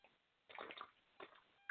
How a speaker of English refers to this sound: That wasn't quiet at all. I'm sorry. I'm basically drinking my water out of a bottle. It's like a protein shake thing, so it just like spills it all down my face.